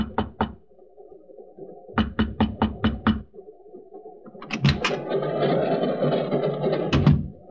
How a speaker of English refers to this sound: I walked up to Mekhanov's section, hesitated, then raised my hand and knocked.